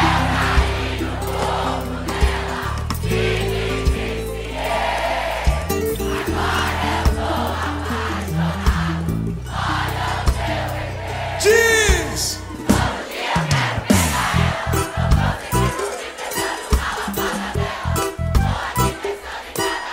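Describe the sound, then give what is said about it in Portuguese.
A large crowd shouts and cheers loudly and continuously, a dense roar of voices with sharper whoops and bursts of yelling toward the end, over a steady droning tonal backing. “Aquele gritão gostoso, vai!”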